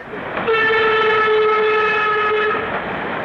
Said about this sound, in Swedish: Stopp för tusan bövlar! Bromsa tåget! Ta fast tåget! Hallå, hallå!